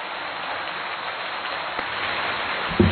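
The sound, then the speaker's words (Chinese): A steady wash of audience applause thanking Lu Junhong for his Buddhist talk, dense and continuous with no individual claps standing out, holding an even level for a few seconds before a brief low thump near the end. “让我们再次用最热烈的掌声，感恩卢军宏台长为我们带来的精彩开示。”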